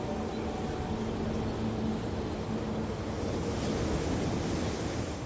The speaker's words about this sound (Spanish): Hoy podemos oír el océano, pero hace 15.000 años la playa estaría a 19 kilómetros.